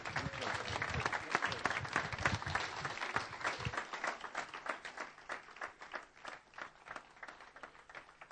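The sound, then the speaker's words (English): Dense crowd applause at a church, many hands clapping at once in a steady, warm roar that gradually thins toward the end with a few scattered claps. “Give her a big clap.”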